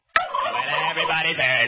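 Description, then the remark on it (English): A turkey gobbles loudly, a rapid rattling burst that starts abruptly and carries on for well over a second, with no talking. “What the hell is that? It's a turkey.”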